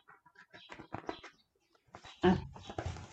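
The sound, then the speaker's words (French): An old rooster perched at a farm gate crows shrilly and loudly, with a sudden strong start that trails off, following a few shorter squawking calls. “Les trois compagnons entendirent des cris stridents.”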